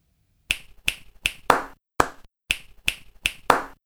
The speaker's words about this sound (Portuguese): Podemos utilizar a percussão corporal para acompanhar uma lenga-lenga. Por exemplo, ouve esta frase. Posso utilizá-la para acompanhar a lenga-lenga anterior. Ora, escuta.